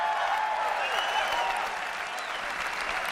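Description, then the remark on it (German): Sustained audience applause as company head Steve Jobs presents the iPhone in 2007, a dense wash of clapping from a large crowd holding steady at a fairly loud level, with some faint cheering tones mixed into the noise. “Am Ende präsentierte Firmenchef Steve Jobs 2007 unter weltweitem Beifall das iPhone.”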